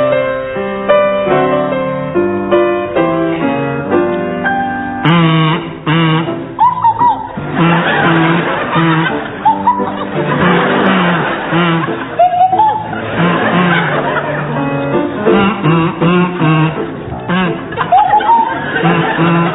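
Jeremy Hardy plays a buzzy kazoo melody joined by Tim Brooke-Taylor on a swanee whistle, its pitch sliding up and down in swooping glides, playing a bouncy tune at a steady loud level with some crowd noise underneath.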